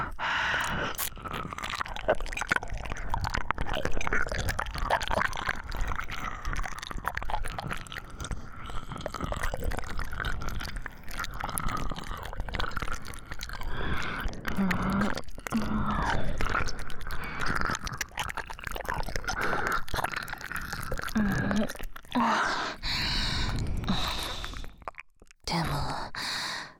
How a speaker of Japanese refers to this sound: 主人様は耳の縁をペロペロされる方が好きっぽいですね。